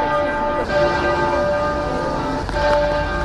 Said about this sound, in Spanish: Las campanas de la abadía de Westminster sonaron para llorar por la muerte de la reina Isabel II.